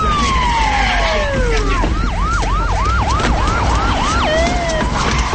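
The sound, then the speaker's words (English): A loud siren from arriving EMS trucks starts with a long falling wail, then shifts into a fast, repeating yelp of about seven rising-falling sweeps, heard over a steady rumble of traffic noise. “EMS trucks arrive.”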